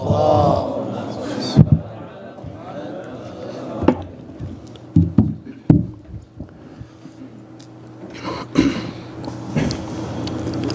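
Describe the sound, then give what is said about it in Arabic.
An audience recites the blessing on Muhammad and the family of Muhammad in unison to welcome Ayatollah Dr. Ali Nasiri's scholarly chair lecture, many voices merging into a loud, rolling communal chant with uneven surges and brief pauses. “نستقبل آية الله الدكتور والأستاذ الكبير علي نصيري للاستماع إلى خطبة الكرسي العلمي بالصلاة على محمد وآل محمد.”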